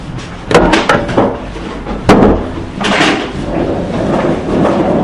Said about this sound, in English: So if you wouldn't mind just closing the door so we can get concentration.